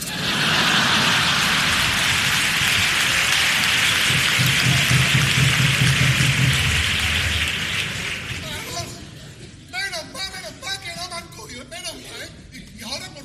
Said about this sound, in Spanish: ¡Retirada! ¡Que está lloviendo!